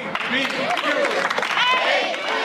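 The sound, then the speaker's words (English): A large crowd at a rally chants "ABQ, anybody but Quinn" against New York City mayoral candidate Christine Quinn in loud, overlapping voices while scattered clapping cracks through, a dense rally roar that holds steady for the whole stretch. “ABQ, anybody but Quinn, shouts the crowd at last spring's rally, referring to Christine Quinn, the one-time mayoral frontrunner.”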